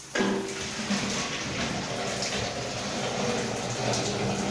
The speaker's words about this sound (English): In this hilly suburban area in the northeast of Trinidad, an empty 5-liter water bottle kept in storage under a bathroom sink is being refilled.